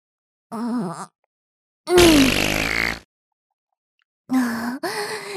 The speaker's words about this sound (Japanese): やだ、またでっかいおなら出ちゃった。 実はね、お姉ちゃんもいっぱいおなら出ちゃう体質なの。しかもすっごく臭いの。卵臭いのがブリブリ出ちゃうの。